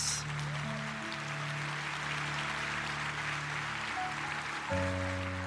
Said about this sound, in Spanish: ¿Quién le va a aplaudir a Dios? Con ganas.